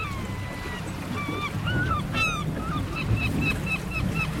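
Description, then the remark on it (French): Many seabirds call at once around a boat at the Riou archipelago, a chorus of overlapping honking and squealing cries, some rising sharply, over a low rumble of engine and water. “On amuse les oiseaux, faut bien le dire.”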